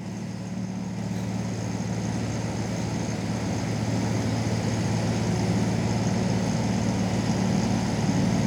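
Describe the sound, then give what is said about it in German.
A stationary truck, standing somewhere, idles steadily with a deep, constant hum and faint tonal whine, holding an even loudness throughout without any speech. “Nichts anderes als ein simpler LKW, der wo irgendwo steht.”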